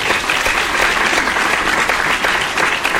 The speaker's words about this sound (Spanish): Aplausos, por favor, así una fanfarria, algo así emocionante, por favor, cabina.